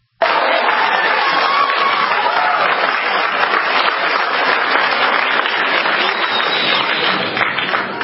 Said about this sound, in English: The majority of the crowd booing.